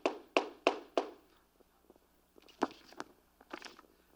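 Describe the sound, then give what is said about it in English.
A hammer strikes a wooden pulpit four times in a quick, even rhythm, each blow a sharp, loud knock, followed by a few softer, irregular taps and thuds. “But you hear the sound of the hammer, and it's not.”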